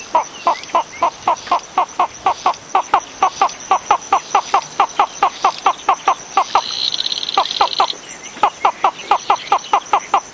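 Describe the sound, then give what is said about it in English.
A Madagascar flufftail bird calls in a long, steady series of rapid, loud, clipped notes, briefly joined by a higher buzzing trill midway, with no voices present. “Both flufftail calls are on the British Library CD, …, an audio guide to the island's unique birds.”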